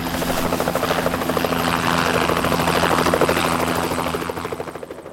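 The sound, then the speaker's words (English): A helicopter passes overhead, its rotor chopping in a loud, steady pulse with a broad engine roar that swells and then begins to fade at the end. “There's the helicopter. Over here!”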